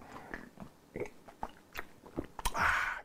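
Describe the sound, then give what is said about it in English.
Mouth sounds of someone sipping a drink: a few soft clicks and wet smacks, then a brief louder slurping sip near the end, with no talking. “Let me take a sip on that because that ain't a headline you read every day.”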